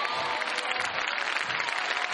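An audience at a church service breaks into sustained applause for Jesus, a dense, steady wash of many hands clapping at once with no single rhythm, loud and continuous throughout.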